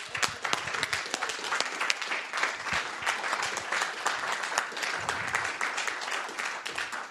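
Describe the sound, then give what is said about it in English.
A crowd applauds their staff steadily for several seconds, dense overlapping claps at a constant, fairly loud level with no pauses or voices standing out. “We have to applaud our staff very, very strongly.”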